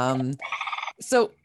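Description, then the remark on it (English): A loud, trumpeting bird call: a rich, buzzy honk, then a quick pulsing stretch, and after a brief gap a final bright, rising-and-falling note that fades out. “So that beautiful trumpeting sound, is that one of the louder bird calls, or is there something special about their anatomy that allows the sound to travel so clearly?”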